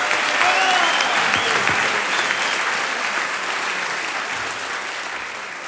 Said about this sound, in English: Lots of applause and clapping and whatnot.